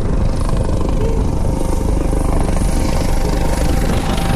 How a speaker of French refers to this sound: L'hélicoptère Dauphin est alors engagé pour hélitreuiller le blessé vers l'hôpital du Taoné.